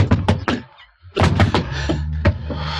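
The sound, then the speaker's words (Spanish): A punch lands on a criminal with a dull thud, followed by the heavy crash of his body collapsing to the floor: a few sharp knocks, a brief silence, then a denser cluster of low thumps and rumbling. “El criminal se desploma pesadamente ante el puñetazo”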